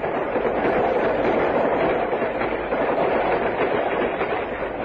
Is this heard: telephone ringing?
no